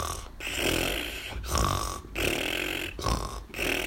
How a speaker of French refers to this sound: À l'aube du 5e jour, les tantines ne sont plus capables de bouger ne serait-ce que le petit doigt. Couchées toutes les 3 dans leur grand lit, elles ronflent comme des machines à vapeur.